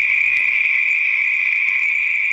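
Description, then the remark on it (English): Male Pacific tree frogs, also called chorus frogs, give their mating call to attract females in a loud, unbroken chorus, a steady shrill trilling that holds constant throughout with no pauses and no voices. “Our Pacific tree frog sound is the call of the male tree frog used to attract females, primarily in the evening hours.”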